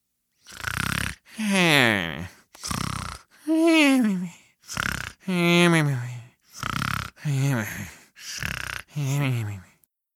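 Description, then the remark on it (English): A voice imitates snoring from the side of a racetrack in a series of about nine loud, drawn-out snorts and groans, each separated by a brief pause, with a wavering pitch that rises and falls. “The snores coming from the side of the racetrack confirmed that.”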